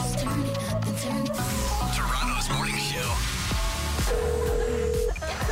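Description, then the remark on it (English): Touch-tone telephone keypad beeps from a call to the Movie Phone service, entering the first three letters of a movie title, sound over a busy, dense musical background, with a series of short tones and one longer steady beep near the end, fairly loud throughout. “Using your touchtone keypad, please enter the first three letters of the movie title now.”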